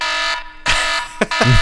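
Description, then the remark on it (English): A loud, harsh timer buzzer sounds in a few bursts with brief breaks between them, a rasping, steady-pitched drone that signals a minute is up. “dear God, that's got to be a minute.”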